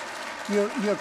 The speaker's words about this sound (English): You shouldn't clap too long because we want to get to the questions next.